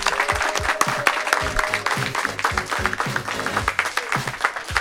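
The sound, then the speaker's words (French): An audience claps steadily for a class of the Lycée Marie Curie, a dense, sustained round of applause with overlapping hand claps and faint crowd murmur underneath. “On peut les applaudir tout de même.”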